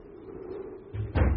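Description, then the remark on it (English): A door is shut with a dull, heavy thud after a brief low rumble, over a steady low hum, as the wind is getting up; no one speaks. “Wind's getting up. Better shut the doors.”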